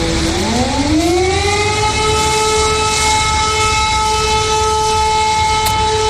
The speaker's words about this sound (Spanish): Por ahora tan solo Jersón está tomada por las tropas de Putin, mientras que otras como Odessa, Mariupol, que resiste hasta el infinito, o la capital Kiev, siguen aguantando. En estos lugares la sirena que alerta de posibles ataques no para de sonar.